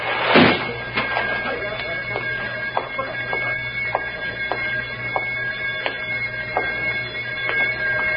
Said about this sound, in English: Wait. The door. Metal door sliding shut.